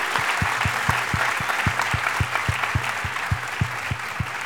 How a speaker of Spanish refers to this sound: ¡Aplausos para ustedes,